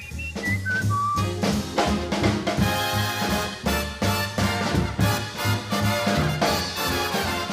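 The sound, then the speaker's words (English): Near the start, a few short, bright whistled notes, like a person mimicking a birdcall, ring out over loud, full band music with pounding bass and drums that carries on afterward. “Oh, he like whistles pretty. Yeah, like a bird.”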